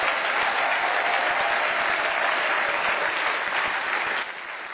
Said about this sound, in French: Je voulais que nous puissions tous acclamer et applaudir la parole du Seigneur.